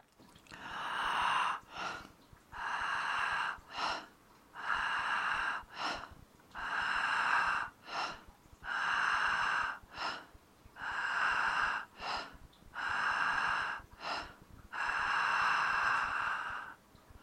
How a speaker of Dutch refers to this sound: Laat nu de adem gewoon stromen. Doe geen moeite. Laat het gebeuren. Laat de adem inkomen en laat hem rustig los. Het is zo makkelijk om te ademen. Laat het binnenkomen. Laat het gaan.